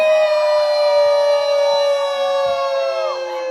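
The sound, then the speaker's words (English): A crowd of voices howls at the moon together: one long, loud, sustained wolf-like howl, holding a steady pitch for a few seconds before sliding downward at the end. “Hey, on the count of three, will y'all howl at the moon with us real quick? One, two, three, ow!”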